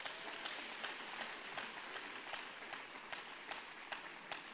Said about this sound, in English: I think he deserves another round of applause.